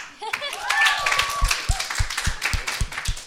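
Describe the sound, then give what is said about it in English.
An audience applauds two speakers after a love chat, in a dense wash of clapping, with a few sharper, rhythmic claps standing out and faint whoops or voices mixed in, sustained at moderate loudness. “Guys, give them another huge round of applause.”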